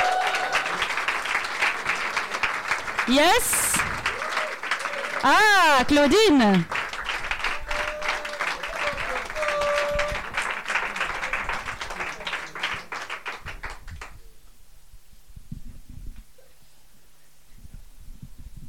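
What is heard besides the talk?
audience applause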